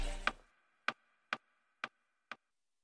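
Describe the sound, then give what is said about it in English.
A countdown clock ticks five times at a steady half-second pace, each tick a sharp click with a brief metallic ring, in otherwise quiet surroundings with no talking. “Ten seconds on the clock.”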